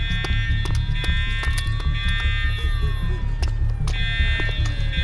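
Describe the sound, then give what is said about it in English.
A loud, steady electronic alarm rings continuously, its high shrill tone layered over a deep rumbling hum, with occasional sharp clanks and knocks breaking through. “That fucking alarm.”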